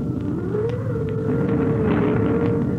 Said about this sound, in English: It is a dark and stormy night. Outside, the wind is howling and whistling.